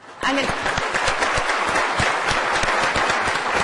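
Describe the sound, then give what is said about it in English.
A crowd at a conference breaks into applause during the thank-yous before the keynote, a dense, steady patter of many hands clapping at once that starts abruptly and keeps going at full strength. “I'm going to ask you just to hold your applause to the end of the thank yous, if you could, so I can go through this quickly.”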